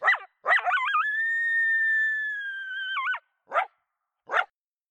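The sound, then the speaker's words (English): A young male coyote lets out a long, wavering howl that rises, holds steady, then breaks into yips, followed by two short sharp barks, clear with no one talking, responding to adult coyotes howling at him. “He was actually responding to adult coyotes that were howling at him, and he's just giving them attitude back.”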